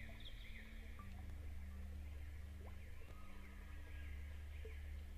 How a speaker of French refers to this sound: Les oiseaux chantent.